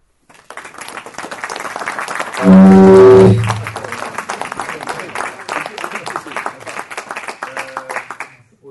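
An audience applauds steadily throughout in tribute to two people who have died, a dense, sustained patter of many hands. Early on, a loud, deep tonal blare like a horn or feedback briefly cuts through the clapping.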